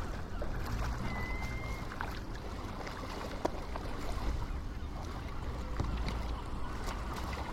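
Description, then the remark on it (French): A steady low rumble of fishing boat engines out on the water, continuous, with faint lapping and a few brief knocks over a broad ambient hum; no one speaks. “On entend encore quelques bateaux de pêche.”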